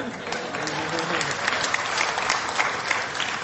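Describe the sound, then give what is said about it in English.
A steady burst of audience applause at an Alcoholics Anonymous (AA) gathering, many hands clapping in a dense, even wash of crisp claps with no voices standing out, sustained for a few seconds at moderate loudness. “You can clap to that.”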